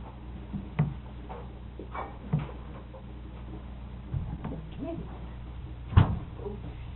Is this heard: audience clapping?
no